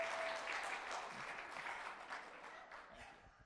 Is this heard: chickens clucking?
no